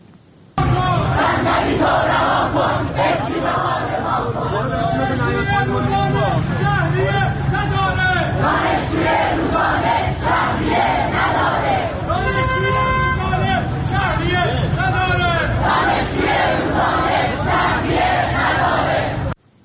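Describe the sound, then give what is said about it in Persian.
A large crowd of University of Tehran students chants loudly and continuously in unison at a gathering protesting tuition fees for remedial courses, many voices shouting together in a rhythmic, sustained protest chant that fills the whole stretch without pause. “در اینجا هم از تجمع شماری از دانشجویان دانشگاه تهران در اعتراض به وضع شهریه دروس جبرانی ویدیویی رو میبینید و میشنوید.”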